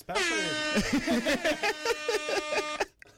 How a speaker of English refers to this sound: Air horn.